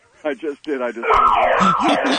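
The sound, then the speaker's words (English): A brief vocal sound gives way to a loud old-time alarm clock blaring continuously, its wavering siren-like tone sustained to the end. “That's an alarm signifying this bit is going in the toilet.”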